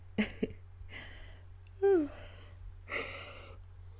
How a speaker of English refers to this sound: Sorry for yawning.